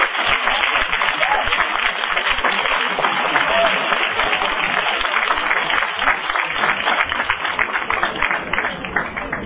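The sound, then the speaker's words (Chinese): Sustained applause from an audience thanking a performer, a dense crackle of many hands clapping at once, steady and fairly loud for about ten seconds with no clear pauses. “好，我哋俾热烈嘅掌声，多谢我哋呢位清晰嘅演员。”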